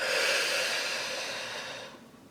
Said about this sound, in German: Wir atmen tief durch die Nase ein, gemeinsam. Und atmen dann ganz bewusst durch den Mund aus.